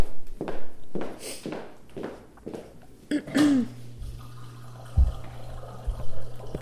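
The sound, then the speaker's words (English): A few soft footsteps, then water is poured into a glass in a steady stream lasting several seconds, with a brief thunk partway through; no talking. “Here, I'll get you more.”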